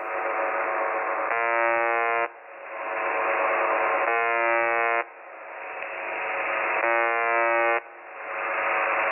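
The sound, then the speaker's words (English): A harsh, buzzing alarm beeps in a steady repeating loop, about every three seconds, over constant hissy static, sounding thin as if heard through a low-quality microphone; the buzzer is picked up by an always-on live mic and plays 24 hours a day. “So it's just beeping. Yeah. It's almost like an alarm of some type.”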